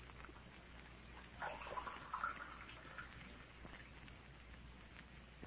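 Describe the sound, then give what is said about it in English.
Water runs briefly from a tap into a glass, a short splashing pour over a steady hiss of background noise, with no voices. “could I have a drink of water? Oh, sure thing. Now, I'll have it for you in a jiffy.”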